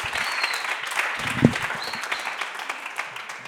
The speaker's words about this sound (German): Und noch einmal Applaus für die beiden Bühnendekonstrukteure.